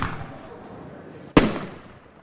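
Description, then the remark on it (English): A single sharp, loud firecracker bang at an art exhibition, set off after audience members wrote their comments on it, then a brief rumbling echo fades away. Before it, there is only a low, hazy background hum. “Another artist has members of the audience write their comments on firecrackers before setting them off.”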